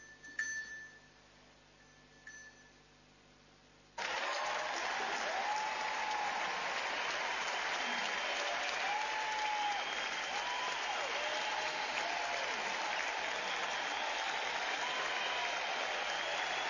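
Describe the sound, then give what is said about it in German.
After a few seconds of near-quiet, a large audience suddenly bursts into loud, sustained applause, a dense steady clapping that continues without letup to the end, with no talking over it. “Das ist euer Applaus.”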